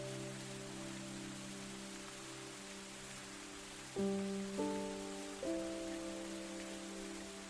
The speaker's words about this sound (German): Du spürst, dass in diesem Regenwald tausende Pflanzen und Tiere ein Zuhause haben und dass auch du Teil dieser Natur bist.